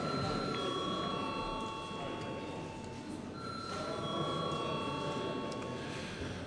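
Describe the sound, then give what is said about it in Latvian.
A parliamentary vote bell rings before a vote on a bill in its second, final reading, one unbroken, steady electric tone for several seconds, its bright pitch holding constant over a low murmur of voices and shuffling. “Paldies, lūdzu zvanu.”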